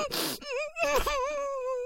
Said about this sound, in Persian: میشه لطفاً دیگه گریه نکنی؟